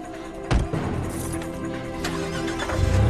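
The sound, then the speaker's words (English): A car engine turns over with a sharp burst, then revs into a steady rumbling drone that swells as the car pulls away from a hospital car park, with a louder surge near the end. “Draping her injured arm in her blouse, Beruze ushers his mother into the car and jumps into the driving seat.”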